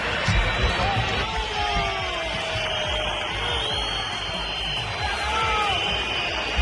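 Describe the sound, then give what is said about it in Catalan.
A dense, steady crowd roar at the Santiago Bernabéu stadium during a Real Madrid match against Levante, with many shrill whistles aimed at footballers such as Vinícius and Bellingham and a rough mass of voices chanting "Florentino dimissió" underneath, loud and unbroken throughout. “Xiulades aixordadores contra futbolistes com Vinícius i Bellingham i crits de Florentino dimissió, i això que el Madrid va acabar guanyant amb penes i glòria, perquè la mitja part del resultat era de 0-0.”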